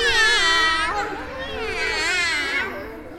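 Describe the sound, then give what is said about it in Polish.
Children's voices imitate a cat's meow, as a kitten wanting milk, in two drawn-out, high-pitched calls, one after the other, loud with a slight pause between them. “Co mówi kotek, gdy mleczka by chciał?”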